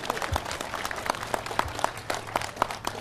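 An audience applauds steadily for about three seconds, a dense patter of overlapping hand claps at an even, moderate loudness, with no voices above it.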